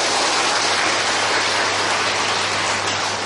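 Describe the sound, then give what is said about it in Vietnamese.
A crowd applauds steadily in praise of merit, a dense wash of many hands clapping at once, loud and sustained for a few seconds with no voices over it. “Xin cho một tràng pháo tay tán thán công đức.”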